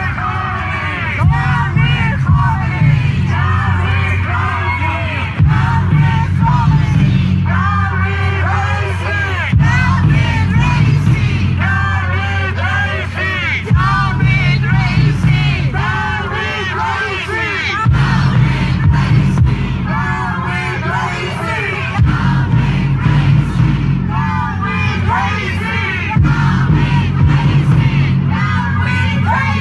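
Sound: crowd yelling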